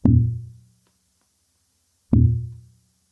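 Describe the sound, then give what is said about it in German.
Two deep, resonant thumps about two seconds apart, tapped out to imitate a very slow heart pulse. Each knock is fairly loud, ringing briefly before fading into silence. “Dann ein sehr langsamer Puls.”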